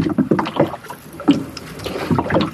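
Kayak paddles dip and pull through river water in a steady rhythm, with soft splashes and drips between strokes and a light wash of wind underneath.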